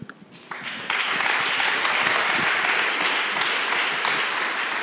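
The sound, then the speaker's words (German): An audience breaks into applause, starting sparse and quickly swelling within the first second into dense, steady clapping that stays loud and even to the end, with no voices over it. “Ein großer Applaus.”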